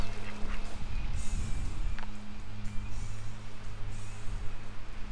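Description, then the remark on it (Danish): Ducks quack in short, scattered bursts at a duck pond in a plantation, over a steady low outdoor hum, moderately loud, with no one speaking, in raw, cold weather before daylight. “Han falder i søvn. Der hos ænderne.”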